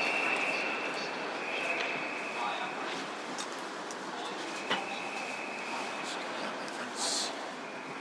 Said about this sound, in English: Oh, they're announcing our train, finally.